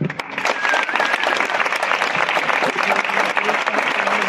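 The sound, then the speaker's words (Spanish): A crowd in Santiago applauds the auxiliary bishop of Lisbon, president of the World Youth Day Lisbon foundation, a dense wash of many hands clapping at an even, sustained loudness for the full length, with no pauses or voices standing out. “Los aplausos han sido más para aquel.”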